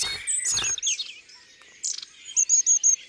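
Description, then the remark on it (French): A flock of long-tailed tits giving contact calls to stay together while moving through trees: thin, high-pitched chirps and trills from several birds, ending in a quick series of four sharp, high notes. A short rustling burst sounds near the start. “Ce qu'on entend là, ce sont des cris de contact.”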